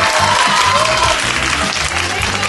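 A crowd applauds steadily, cheering on the contestants of a quiz show, a dense wash of clapping hands that stays loud and even throughout, with a faint murmur of voices underneath.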